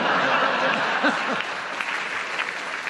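A crowd applauds a joke for about three seconds, a dense, even wash of clapping with a few faint voices and chuckles mixed in.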